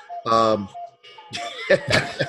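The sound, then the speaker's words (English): A cuckoo clock chimes with a short, bright tonal call, fairly loud, followed by a noisier burst of clattering and what sounds like light laughter. “Us and the cuckoo clock all want to wish you a happy and or merry one.”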